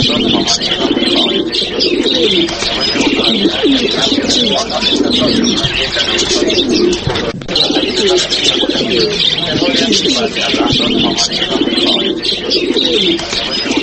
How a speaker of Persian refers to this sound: شنوندگان عزیز، کفتر یا کبوتر کزش در زمانه های قدیم به نام قاصد باوفا یاد می شد. تا امروز علاقمندان خاص خودش را دارد و کسان آن را در خانه هایشان به صورت خیل نگه می کنند.